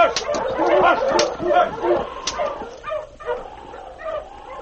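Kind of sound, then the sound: animal, huskies barking and yipping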